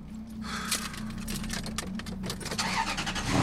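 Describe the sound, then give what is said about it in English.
A car engine idles with a steady low hum, punctuated by faint clicks and rattles, then swells louder near the end as if revving or pulling away. No one speaks. “In the other man's car”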